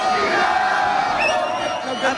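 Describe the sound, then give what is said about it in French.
A street crowd on rue de Metz cheers and shouts in celebration of a French football victory at the final whistle, a dense, steady roar of many voices with scattered whoops and yells rising above it, loud throughout. “Coup de sifflet final, et ce sont de véritables scènes de liesse qui débutent rue de Metz.”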